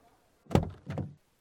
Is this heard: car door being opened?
yes